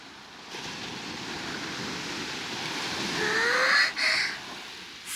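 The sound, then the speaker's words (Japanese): Ocean waves wash steadily onto a shore in a continuous hissing rush that swells louder toward the end, with a few brief high chirping bird calls over it. No one speaks. “さあ、海の方まで行きましょう。”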